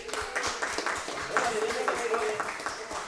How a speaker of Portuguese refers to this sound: Peço licença ao presidente da casa para que esses meninos venham fazer parte aqui da participação dos professores. Vem cá, vamos campeões. Vamos aplaudi-los.